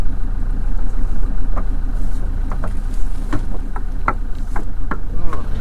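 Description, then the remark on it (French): The engine of an old traditional sailing boat, a former shellfish boat from the Brest roadstead in France, idles in a steady low rumble throughout, with occasional sharp clicks and knocks over the top, fairly loud. “Donc du coup je vais couper le moteur.”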